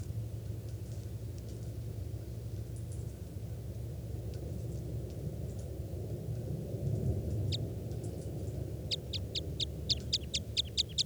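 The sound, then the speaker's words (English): Over a steady low rumble, a bird identified as a type 2 bird gives a few faint high chirps, then a rapid, evenly spaced run of about ten sharp, high-pitched call notes at the end. “400 is the type 2 bird there on the side.”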